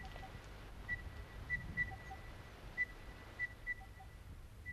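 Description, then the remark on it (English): A crested bellbird calls in a series of about seven clear, ringing whistled notes at a steady mid-high pitch, with faint lower accompanying tones over a soft, low background rumble, heard on a walking track just after leaving a creek bed. “Almost immediately on leaving the creek bed, we heard the distinctive cry of the crested bellbird.”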